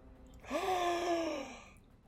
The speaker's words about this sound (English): Gasp of breath as … appears.